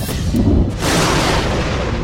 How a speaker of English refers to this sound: One interesting consequence of the great speed with which light travels is that you see a flash of lightning essentially instantaneously, but you hear the thunder only later on.